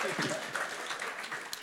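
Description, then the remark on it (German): An audience claps in a steady, dense patter of many hands, with a murmur of voices mixed into the applause throughout. “Ja, ich lasse die Leute jetzt mal klatschen.”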